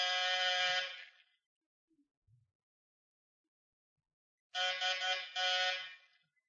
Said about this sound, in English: All right, ring the bell, see if anyone's home.